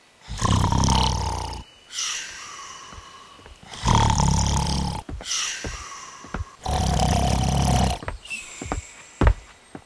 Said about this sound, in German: Wartet mal, wieso liegt der denn auf dem Boden und schnarcht?